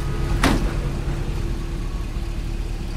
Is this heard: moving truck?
yes